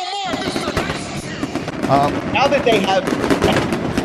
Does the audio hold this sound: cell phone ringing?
no